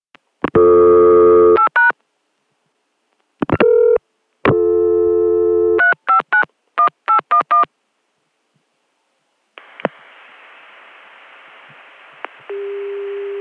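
Bursts of touch-tone dialing beeps, several long tones and a quick run of short ones, followed by a steady hissy dial tone that shifts to a lower steady tone near the end.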